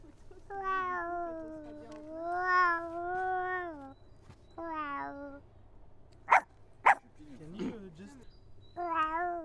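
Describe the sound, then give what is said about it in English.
A person's voice imitates animals: several long, wavering meows, then two short, sharp barks close together, followed by a lower growly sound and one more meow, all fairly clear. “Yes, and then the dog and the cat.”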